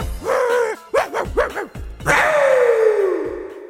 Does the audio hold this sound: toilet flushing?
no